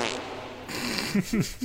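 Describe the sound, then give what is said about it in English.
A short series of low, buzzy blasts, three quick sputtering bursts that sag in pitch, like a comic fart sound effect, playing fairly loud with no talking. “Can we get a fart sound?”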